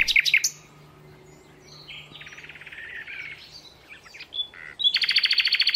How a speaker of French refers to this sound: Par cette belle fin de journée de printemps, assise, j'écoute le chant des oiseaux.